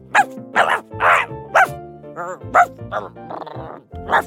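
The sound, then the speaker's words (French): A dog, Toulouse, barks loudly from its doghouse, a quick series of sharp, irregular barks with brief whiny, whimpering sounds in between. “en prenant un tunnel qui les amena directement dans la niche du chien.”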